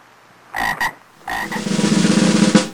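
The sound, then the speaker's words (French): Frogs croak in two short double bursts, then a dense, rising chorus of rapid, pulsing croaks swells and fills the rest, fairly loud with no voices. “Alors j'ai plein des grenouilles.”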